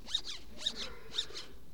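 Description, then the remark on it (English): Three quick, squeaky tearing zips, evenly spaced about half a second apart, as a banana is peeled in cartoonish strokes; clear with no talking. “I will hurry and peel the banana.”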